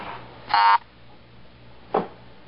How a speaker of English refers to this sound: I think we got the car horn beep because I had accidentally pressed another key or something, and it didn't think it was a valid barcode.